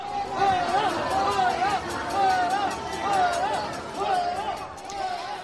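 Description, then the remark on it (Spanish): A crowd boos and jeers President Pedro Sánchez on his visit to the Hospital Universitario La Paz in Madrid, in a steady, loud roar of many overlapping voices, with long wavering cries rising and falling throughout. “El presidente visitaba el Hospital Universitario La Paz de Madrid y fue recibido con abucheos.”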